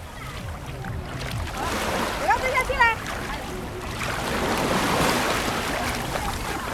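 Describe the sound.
Broad, rushing ocean surf swells and recedes on the shore, washing in twice across the stretch, with a person speaking briefly in the middle over the steady water noise.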